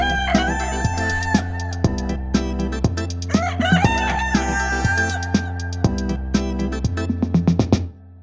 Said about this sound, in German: Langenhain, Neuberg, Kreftel. 3 kleine Gemeinden im Rhein-Main-Gebiet. Nicht nur auf den Bauernhöfen, die es hier noch gibt, sondern auch in immer mehr privaten Gärten scharren, picken und gackern die Hühner um die Wette.